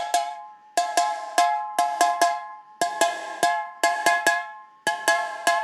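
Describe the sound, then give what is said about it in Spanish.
Fairly loud metallic tapping on a fly-spray can, bright ringing clanks falling into short repeating rhythmic groups like a looped pattern, with no voices. “Algunos loops tocados con un spray matamosca.”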